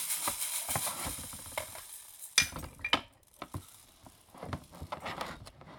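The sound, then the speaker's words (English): A rainmaker rain stick is shaken, giving a steady hissing patter of tumbling beads with sharper clicks and rattles now and then, rising and falling in bursts, with no talking. “Is that your music instrument? Rainmaker. Shake, shake, shake.”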